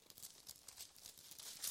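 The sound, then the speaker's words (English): Soft, rapid rustling of Bible pages being flipped through to find Deuteronomy 25, a quick run of papery swishes in close succession, quiet, with no voices. “Don't you love the sound of paper whirring?”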